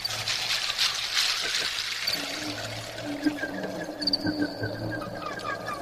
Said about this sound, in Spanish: agua.